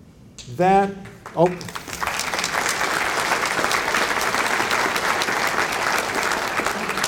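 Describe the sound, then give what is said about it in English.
After a brief burst of voice at the start, an audience breaks into sustained, steady applause, a dense even wash of many clapping hands that holds at a fairly loud level to the end. “I appreciate that applause.”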